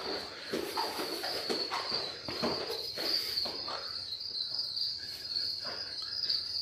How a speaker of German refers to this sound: Ich weiß nicht, ob man sie im Hintergrund schon hört. Ja, man hört's. Das sind unsere Heimchen und unsere Grillen, die da so Geräusche machen.